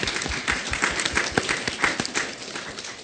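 A crowd applauds the Chickasaw Nation's generosity to OU College of Law with steady, dense clapping that holds at an even level for about three seconds. The crackly patter has no voices over it.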